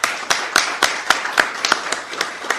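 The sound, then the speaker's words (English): A round of applause from a small group for the event's team at a forum on the 2017 Geelong elections, the claps sharp and fairly evenly spaced, moderately loud, with no voices over them. “So can we have a round of applause for those people?”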